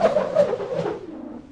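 A bus heading to the town centre approaches with a steady droning engine hum and hissy noise, its sound holding fairly constant before easing slightly as it draws near.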